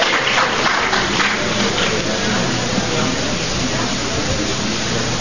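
A crowd applauds steadily, dense overlapping clapping with a few cheering voices mixed in, holding an even, fairly loud level throughout without dying down.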